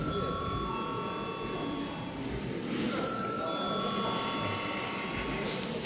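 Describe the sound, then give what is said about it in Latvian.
A parliamentary voting bell rings continuously for several seconds, a steady, shrill electric tone over the low murmur of a chamber where people talk in the background, rung to call deputies to a vote on a proposal. “Lūdzu, zvanu.”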